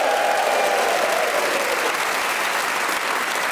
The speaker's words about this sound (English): They are Giles Brandreth, Lucy Porter, Rhys James and Ria Lena. Please whoop and cheer and go crackers for the lot of them.